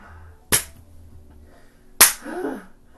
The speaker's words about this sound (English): I think it's not the strength of the slap, it's like the time between them. Yeah. That it makes it unbearable.